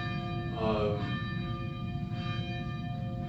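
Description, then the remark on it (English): A church bell rings at the end of a church service, with long, humming overtones that hang in the air, a fresh strike swelling near the start and another about two seconds later, with no talking. “Okay, well, that's the bell.”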